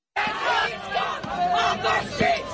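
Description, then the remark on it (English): A crowd of Antifa protesters in Hamilton, Ontario, shouting and yelling at once at an elderly woman with a rolling walker as they block her path at a crosswalk; loud and continuous, with several raised voices overlapping in a steady, angry din with no clear words. “It's a video of Antifa protesters screaming at and blocking the path of an incredibly elderly woman walking with a rolling walker.”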